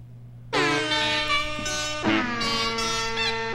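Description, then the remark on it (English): Loud, brassy air horns and bicycle horns honk along to music in sustained, harmonically rich blasts over a steady low tone, shifting pitch partway through as if playing a tune, with no talking. “It's just music and bicycle horns and air horns.”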